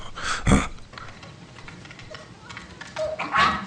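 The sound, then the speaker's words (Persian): A little dog barks restlessly in a couple of sharp, loud bursts, one early and one near the end, with a brief whiny yelp and quieter rustling in between. “چرا اینقدر الکی سر و صدا میکنی؟ برید ببینید این سگ چرا اینقدر بیتابی میکنه.”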